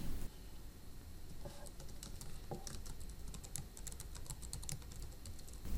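Quiet typing on a computer keyboard while writing a test in a PHP file: a run of light, irregular key clicks over about six seconds, some bursts quicker than others, with a steady low hum underneath and no voices.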